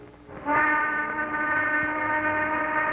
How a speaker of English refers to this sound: There goes the noon whistle.